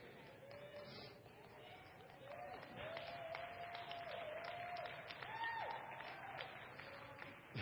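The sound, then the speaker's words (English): An audience breaks into applause for the pastor, a dense wash of many hands clapping that swells after a couple of seconds and holds steady, with a few voices calling out over it. “Wasn't looking for a hand clap, but now I'm embarrassed.”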